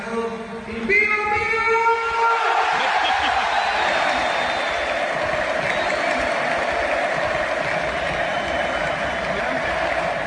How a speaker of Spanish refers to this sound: Es el sonido de 10.000 personas en la presentación de Gesé.